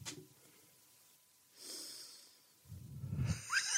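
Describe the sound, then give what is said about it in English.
Someone sniffs theatrically at a phone held up as a pretend bun: a quick breath, then a loud drawn-out nasal inhale and a final rough, snorting sniff, with no talking. “Can you show us, you've picked up a bun and you sniff it and you cannot believe your luck.”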